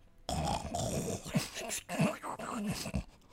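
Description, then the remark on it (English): A person imitates a snoring animal using only the soft palate, no vocals, with rhythmic snorts and snuffling grunts, several raspy throaty bursts in quick succession with no spoken words. “stop snoring and wake up. Wake up and do the sound. No vocals used. I just used soft palate.”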